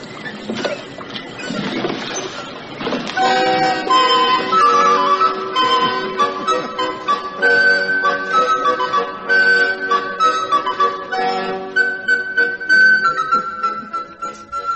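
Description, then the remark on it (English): A recording of Handel's Water Music: baroque orchestral music plays steadily and fairly loud. After a brief noisy opening, it settles into sustained melodic lines over held harmonies, with no voices. “it's clearly water music. Yes, that's what it is. Also Handel.”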